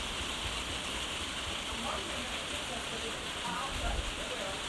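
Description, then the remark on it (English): Steady rain patters continuously across the whole clip, a dense hiss of drops striking a surface with no breaks and no voices. “It's raining, Sally dog.”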